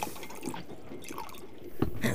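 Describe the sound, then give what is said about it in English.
Scotch and soda being poured into a glass in a smoky, crowded club car: a faint, trickling dribble of liquid that ends in a short, louder burst of splashing and fizzing near the end. “I'll have a scotch and soda, please.”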